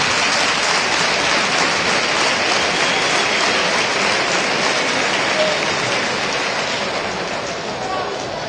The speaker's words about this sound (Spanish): Bueno, pues entre aplausos para el jugador ex recreativista.